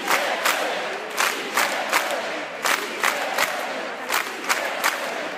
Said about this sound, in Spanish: Tras el programa, la Plaza de la Virgen se volvió a llenar al grito de «Sí se puede».